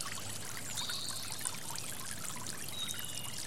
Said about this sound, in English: Deepen your breathing and imagine yourself walking along a beautiful stream. You can hear birds singing as the stream rushes by.